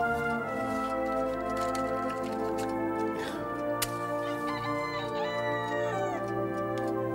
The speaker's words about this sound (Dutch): Jongen, ik schrik me een ongeluk. Het was een wekkert.